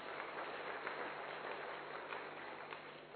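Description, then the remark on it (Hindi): Steady, dense applause from an audience at the close of a stage event, given as thanks to everyone present, a continuous wash of many hands clapping at moderate volume without pause, with no voices standing out over it. “अब लास्ट में धन्यवाद आप सबका, तो एक बार जोरदार तालियां आप सब।”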